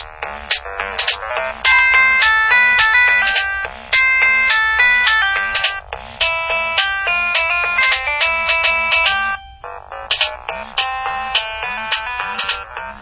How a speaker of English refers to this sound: So there you go, that's the polyphonic ringtones. It's an awful lot of fun.